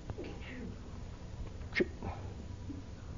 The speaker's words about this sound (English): No sneezing while I'm talking, please.